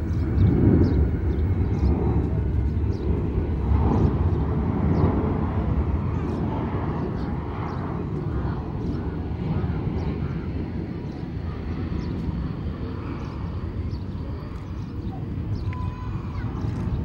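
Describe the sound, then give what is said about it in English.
A Boeing 747 jet glides in overhead over the Western Ghats with a deep, steady roar that fills the low end for the whole stretch, swelling slightly early on, with faint high ticks scattered above. “Another 747 glides in over the Western Ghats.”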